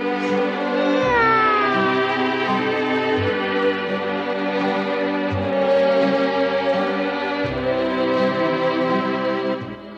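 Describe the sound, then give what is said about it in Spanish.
A drawn-out, falling kitten meow rises out of a steady, sustained musical drone, with deep bass notes shifting underneath and no talking throughout. “Mamita, me encuentro muy solo sin ti. ¡Miau!”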